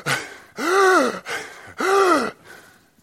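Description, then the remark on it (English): A voice imitates a sheriff's labored, ragged breathing in a jail: two long, rasping gasps with strained, arching tones, each followed by a shorter wheezy exhale, fairly loud with no words. “Walked in there, and he could hear him breathing when he stepped through the door.”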